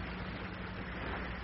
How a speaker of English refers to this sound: No. Nothing but the wind.